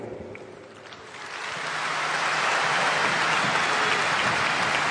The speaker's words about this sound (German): Die Gedenkminute und der Beifall für Willi Burgsmüller, einen der Granden von Borussia Dortmund.